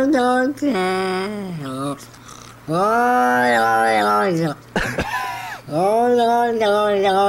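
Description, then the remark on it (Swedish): A cat wails in long, drawn-out moaning meows, four or five loud yowls with wavering, sliding pitch, separated by brief pauses and heard alone without talk. “Han sitter typ och jämrar sig. Det är så jävla alltså, vid när katten gör så här.”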